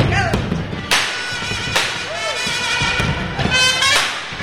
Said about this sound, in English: The sounds of hammers and confetti cannons were accentuated by mariachi music as construction got underway at the new Irma and Emilio Nicolas Media Center.